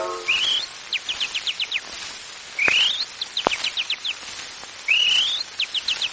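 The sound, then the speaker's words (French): A whistled imitation of chaffinch song: three phrases, each a rising slurred note followed by a quick run of descending chirps, clear with no talking. “Le pinson chante ceci.”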